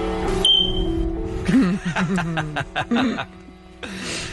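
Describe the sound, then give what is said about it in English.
A fire alarm gives one brief, shrill electronic beep near the start, then people break into chuckles and snickering laughter. “Next time, when you miss EDC and your fire alarm starts to go off, just do me a favor.”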